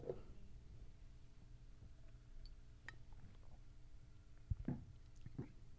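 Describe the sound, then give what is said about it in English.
Someone quietly sips water: a few soft, wet swallowing sounds and a faint clink of a glass, with no talking over a low background hum. “Excuse me, I have more water here.”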